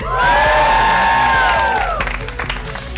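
A show audience cheers loudly to welcome the show back, with sustained high whoops and shouts for about two seconds, then scattered clapping carries on as the voices fade.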